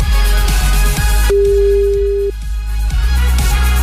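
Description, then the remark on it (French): A telephone rings with a single steady electronic tone that lasts about a second, clear and fairly loud over a bed of background music, as a listener's call comes in for an Énergie radio contest. “Le téléphone maintenant va sonner.”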